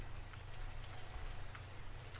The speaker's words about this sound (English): The sound of the rain on the window.